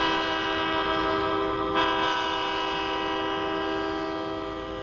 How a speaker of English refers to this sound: Freight trains haunt the night in Fresno County. Long lines of tank cars and hopper cars roll through the valley, hauling out the county's farmland bounty and hauling in chemicals and farm equipment.